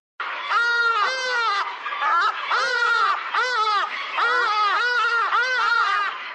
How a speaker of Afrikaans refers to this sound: Volgens my inligting is die Hadida die voel met die hardste roep, of sal ek nou sê skree, in Afrika, oor die 80 decibel.